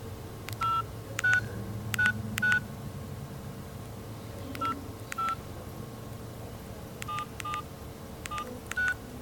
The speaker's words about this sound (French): Tout est calme, les mouvements sont assez minimes, jusqu'à ce que le spectateur sorte son téléphone portable de sa poche et perturbe la scène en composant un numéro de téléphone. Alors ça donne ça.